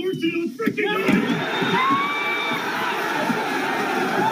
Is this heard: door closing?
no